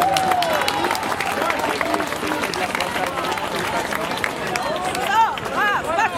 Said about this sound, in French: Un grand bravo à elles, je vous propose vraiment des applaudissements pour cette excellente initiative.